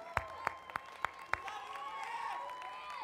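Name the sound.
audience applauding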